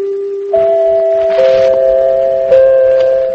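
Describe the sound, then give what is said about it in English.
Four clear chime notes ring out one after another, each tone sustaining and overlapping the last, a loud, clean broadcast network signature with no voices: the extra fourth chime, rung only when news of world importance is breaking. “Have you heard that extra chime, the fourth chime?”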